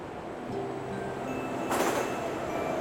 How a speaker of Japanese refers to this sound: ちょうど電車が来たみたいね。